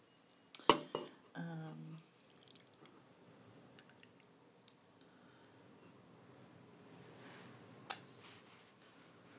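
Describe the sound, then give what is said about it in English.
A few sharp little drips of hot chocolate land, one near the start followed by a brief low clatter, then another single drop much later. “Tiny bit of hot chocolate dripped.”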